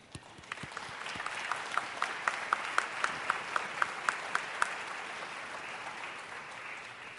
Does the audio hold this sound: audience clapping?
yes